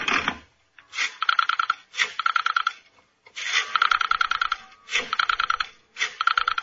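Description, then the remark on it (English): A rotary telephone being dialed to call someone's father: six spins of the dial, each a whir followed by a quick train of ratcheting clicks, with short pauses between digits and no talking. “Now pick up the receiver.”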